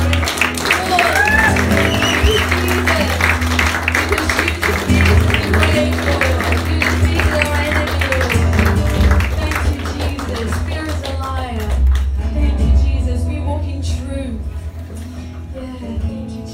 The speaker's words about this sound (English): Thank you, Jesus. Thank you, Father. Can we just give him some applause and cheers?